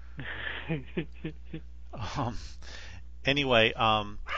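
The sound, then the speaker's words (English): Dogs bark at an airplane flying overhead, yelping in a quick run of short, sharp calls, then breaking into longer, wavering howl-like barks, loud over a steady low hum. “That is the dogs protecting this place from an airplane flying over.”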